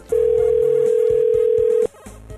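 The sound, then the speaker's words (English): A single steady ringback tone from an outgoing, unanswered phone call hums loudly for nearly two seconds, then cuts off, leaving faint line noise. No one speaks. “She's just not picking up. It's ringing 4 times.”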